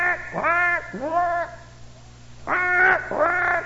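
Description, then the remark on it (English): A big black crow outside early in the morning caws four times in two quick pairs, each call harsh and drawn out and loud, with a short pause between the pairs. “And it's a big old black crow out there. All morning low, that crow was just jabbering.”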